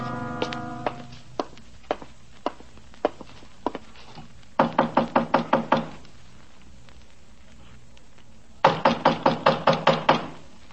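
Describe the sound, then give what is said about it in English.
Police knocking on a door: first a string of single, evenly spaced raps, then two loud, rapid bursts of about six hard knocks each, insistent, with no voices. “Police, open the door.”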